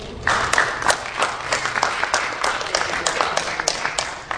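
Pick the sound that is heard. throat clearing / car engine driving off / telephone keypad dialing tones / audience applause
audience applause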